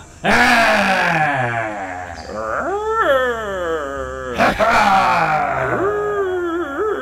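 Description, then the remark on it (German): Loud, sustained howling and roaring from voices shouting while massaging someone's muscles, with long wavering cries that rise and fall in pitch, nearly continuous for several seconds. “Und am besten brüllen wir recht laut dazu.”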